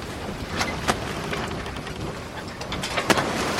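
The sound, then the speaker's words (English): A sailing ship at sea: a steady, dense wash of wind and water with a few sharp creaks or splashes breaking through, with no voices. “A sailing ship.”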